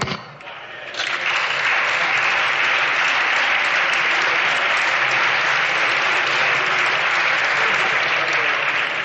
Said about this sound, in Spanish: El aplauso socialista a esta gran respuesta me parece alucinante.